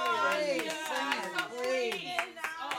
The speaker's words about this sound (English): I mean, that's not much of applause to me, darling.